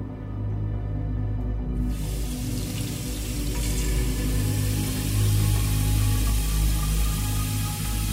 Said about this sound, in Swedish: När det dyra vinet är uppdrucket så fyller Maria flaskan med vatten.